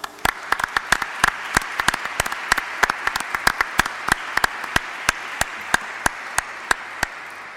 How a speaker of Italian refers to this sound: e che vogliamo metterci nello spirito giusto per ascoltare con un brano musicale all'organo il maestro Riccardo Cossi, che ringraziamo con un bel applauso.